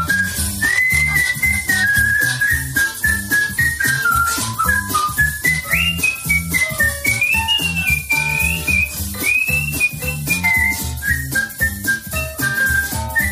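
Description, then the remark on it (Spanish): A professional female whistler, just proclaimed the best whistler in the world, carries a bright, agile melody with smooth slides and trills over a steady rhythmic instrumental backing, loud throughout. “Sí, ya te decía que esto es otro nivel, porque a quien escucha silbar”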